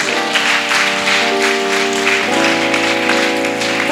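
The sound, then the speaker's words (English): A large group stands and claps for Jesus, hands meeting in a dense, continuous patter, moderately loud, over a steady sustained musical tone, with no clear talking. “Stand to your feet. We finish. Clap for Jesus.”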